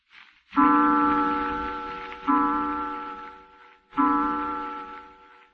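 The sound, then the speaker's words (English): A clock strikes twelve o'clock in slow, even succession, each resonant bell-like chime ringing out and fading before the next; three strikes are heard, clear, with no voices. “Twelve o'clock.”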